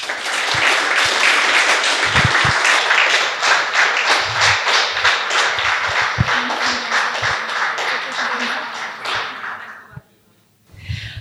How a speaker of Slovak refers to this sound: Tak ďakujem pekne a poprosím potlesk.